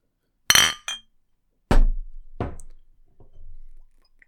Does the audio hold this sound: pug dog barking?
no